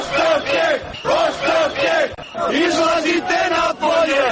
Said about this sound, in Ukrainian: Спершу йшлося про протест знедолених і безробітних людей. Наразі вони висувають і політичні вимоги. Пропонуємо послухати, що у вівторок вигукували демонстранти у Сараєві.